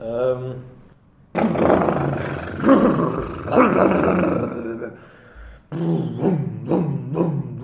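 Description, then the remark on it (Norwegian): A voice imitates a cold motorboat engine struggling to start, also trying to simulate the waves: a rough, sputtering growl that rises and falls in uneven bursts, breaks off briefly, then resumes with choppy rhythmic pulses. “Det var en kald motorbåt.”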